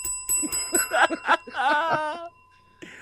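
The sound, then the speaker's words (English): A bell rings several times in quick, bright strikes, followed by a longer, wavering ring that fades out. The sound is fairly loud, with no talking over it. “Give him the bell.”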